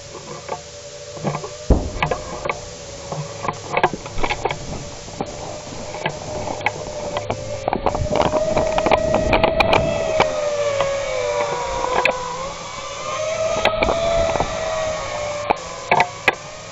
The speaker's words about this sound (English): And then you can hear it, the sound of a drone.